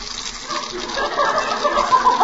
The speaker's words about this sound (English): And the gas stove's squirting water. Well, Mother, it's not so bad. When you want to take a nice hot shower, just crawl in the oven.